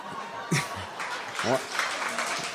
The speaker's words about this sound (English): No. Why are you clapping? That's not good. All right. That's really not good.